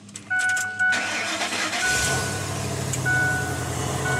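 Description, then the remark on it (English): An F-150 pickup truck fitted with a homebuilt hydrogen system cranks and catches, settling into a steady, rumbling idle, while a few high electronic dashboard chimes beep over the start. “All right, I'm just gonna start it.”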